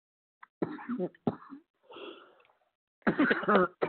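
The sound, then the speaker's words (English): A woman gives a few deliberate, theatrical stage coughs for emphasis: two sharp bursts, a softer breathy throat sound, then a louder double cough to finish. “She is emphasizing what she thinks and feels right now by a stage cough.”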